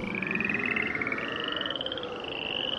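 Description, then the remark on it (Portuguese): A dense chorus of many frogs croaking at once, a steady wall of rapid pulsing trills and croaks that stays loud throughout, with no voices; frogs coming up out of the waters and covering the land of Egypt in the biblical plague. “Aí Arão estendeu a mão sobre as águas do Egito, e as rãs saíram das águas e cobriram todo o país.”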